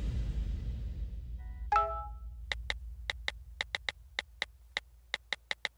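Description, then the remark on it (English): A single bright phone text message alert chime rings out, followed by a quick, uneven series of crisp clicks like tapping on a phone keypad while texting, over a low background rumble with no talking. “Oh, you know what that is. It's something that you do on a regular basis. I'm talking about texting on your phone.”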